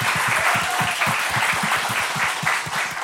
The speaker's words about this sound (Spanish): Wow. Qué bonito. Qué bonito. Un aplauso ahí.